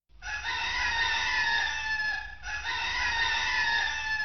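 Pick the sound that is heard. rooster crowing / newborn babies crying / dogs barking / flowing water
rooster crowing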